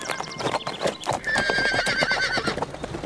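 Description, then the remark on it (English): Rapid, rhythmic galloping hoofbeats pound steadily throughout, and partway through a horse lets out a long, high, wavering neigh over the hooves. No one speaks. The Lone Ranger rides his horse Silver well ahead of Tonto to overtake a stagecoach. “The Lone Ranger, riding well ahead of Tonto, quickly overtook the stage, then moved alongside and shouted to the driver.”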